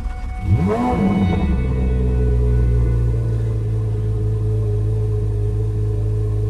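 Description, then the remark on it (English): A car engine revs up with a rising, sweeping roar, then settles into a loud, steady, deep rumble, heard from the driver's seat. “Sufficiently loud. That's from the driver's seat.”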